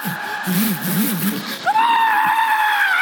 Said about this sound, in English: Ah! The thing's drilling a hole through my head. I'm screaming at the top of my lungs, I forget what I'm supposed to do.